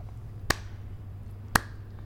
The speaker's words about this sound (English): If you can't hear it, that's a slow clap.